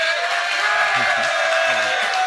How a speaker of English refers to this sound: So are you happy that Jaylen Brown is gone? If so, make a little bit of noise here this morning. Wow, that's more than I expected.